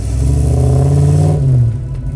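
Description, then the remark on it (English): A deep, throaty V8 sports car engine revs loudly, its low rumble rising and holding before easing off near the end, with no voices. “Back when V8s were synonymous with sports cars, and cars with bigger displacement engines and more cylinders tend to make a deeper noise.”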